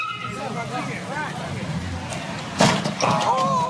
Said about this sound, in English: One more crunching confrontation out in the street. The white SUV smashes into the silver SUV one more time.